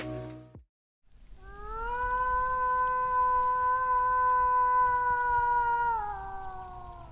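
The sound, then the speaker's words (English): A person imitates a wolf howl to draw a wolf out of the forest: a single long, drawn-out howl holds a steady pitch for several seconds before sliding slightly lower at the end, loud and clear with no voices, preceded by a short burst of noise. “That is a damn good howl.”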